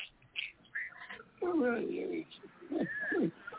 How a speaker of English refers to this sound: Oh, he's petting Uncle Tony the duck right now. You can hear him squealing with happiness.